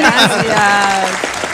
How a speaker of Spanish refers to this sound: Gracias. Estoy aplaudiendo yo solo. Yo, aquí también te estamos poniendo aplausos,